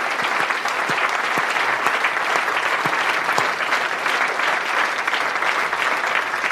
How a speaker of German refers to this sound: Erstmal nochmal danke an das Publikum hier im Schmidtchen. Ja. Ein ganz großartiges Publikum. Könnt ihr euch mal eben selber beklatschen. Das war richtig toll heute Abend hier.